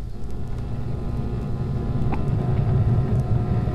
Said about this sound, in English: Car is going around behind the building, checking the back doors.